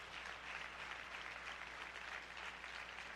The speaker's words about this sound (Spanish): Denle el aplauso fuerte al Señor.